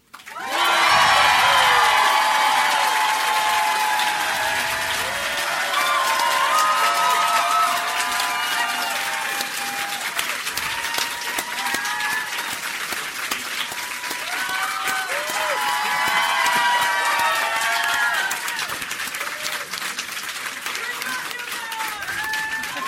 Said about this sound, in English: We love you guys. We didn't even ask you guys to clap that loud. I know. Or long. We didn't have to pump the crowd. It was cool.